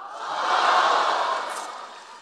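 An audience at a Deyunshe crosstalk (xiangsheng) performance breaks into applause mixed with cheering, a dense crackling wash that swells quickly, holds for about a second, then gradually tapers off. No one speaks over it.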